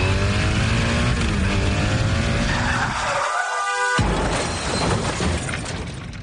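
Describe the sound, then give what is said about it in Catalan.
Loud screeching tire skid of a motorcycle weaving between cars in traffic, over its roaring engine, rising in pitch, then a sudden cut and a harsh, noisy crash-like burst of an accident continuing to the end. No voices. “De camí a casa amb la moto. Faré zigazagues entre els cotxes. I tindré un accident.”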